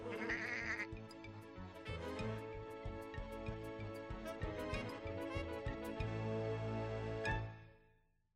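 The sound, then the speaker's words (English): A sheep's bleating rides over a bouncy, steady polka rhythm credited to the sheep, loud and continuous for about seven seconds before a quick fade at the end. “Thanks for the polka, Mr. Sheep.”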